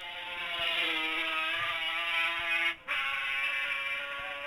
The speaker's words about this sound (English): And there's the sound of the 500 Suzuki. And he's got the road to himself.